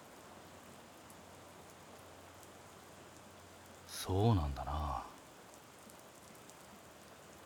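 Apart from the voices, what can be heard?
rain falling outside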